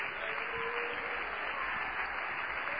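A crowd claps steadily and continuously as they go down after a blessing, a dense wash of many hands at a fairly even level, with no voices standing out.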